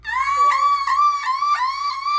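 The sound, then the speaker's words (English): Girls doing the car alarm challenge imitate a car alarm with a loud, shrill, sustained high-pitched wail broken by rhythmic pulsing bursts about three times a second, and no other talking. “Here's some examples of people doing the car alarm challenge.”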